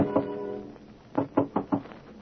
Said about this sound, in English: But Anne, being a woman, is still awake, a little dewy-eyed, a little dazed, a little impervious to the knocking on her door that finally rouses her from love's sweet coma.